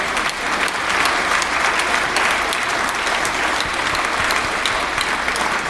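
An audience applauding during a speech pledging housing reform, a dense wash of many hands clapping that swells in the first moment and then holds steady and loud for several seconds, with no voices over it.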